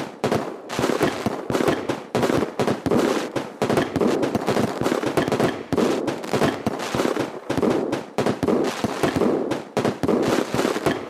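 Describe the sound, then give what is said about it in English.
Rapid, dense fireworks explosions crackle and boom almost continuously, loud, with overlapping bursts and no pauses, like a finale barrage with no voices, at a 4th of July fireworks display in the U.S. “I went to a couple fireworks displays, and they were pretty good.”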